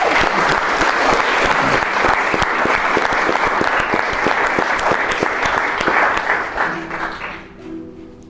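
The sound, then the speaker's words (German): A crowd applauds in advance to encourage a singer about to perform a song, with dense, crackling clapping that holds strong for several seconds, then tapers off near the end as the clapping thins out. “Ich würde sagen, du bekommst jetzt erstmal zur Ermutigung einen Applaus für den Vorhinein.”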